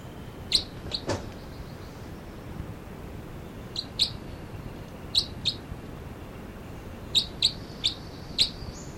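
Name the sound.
two birds calling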